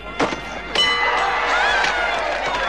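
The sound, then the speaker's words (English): Two sharp hammer whacks as a woman strikes a fairground strength tester, the second followed by a bright, sustained metallic ringing over a murmur of crowd noise. “whacks a strength test with a hammer.”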